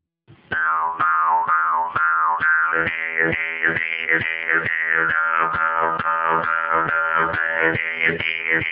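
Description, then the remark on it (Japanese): A mukkuri, the traditional bamboo mouth harp of the Ainu people, twangs in a steady, buzzing rhythm, its sharp plucks repeating about twice a second while a wavering, vowel-like overtone melody slides up and down over a low drone. “ムックリはアイヌ民族に古くから伝わる竹製の鋼琴です。今日はムックリを持ってきましたので、先ほどちょっと演奏してみましたので、はい、聞いてみてください。”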